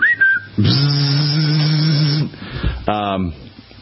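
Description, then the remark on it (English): A person imitates the R2-D2 robot's beeps with a whistle: a short high whistled chirp, then a long buzzy, warbling vocal tone and a brief rising squeal, fairly loud with no words spoken. “And then the lovely bride was dissing on my R2 whistle tonight.”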